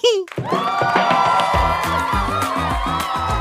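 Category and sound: crowd, applause and cheering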